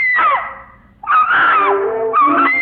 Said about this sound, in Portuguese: Ao grito de Miloca, acudiu logo toda a família.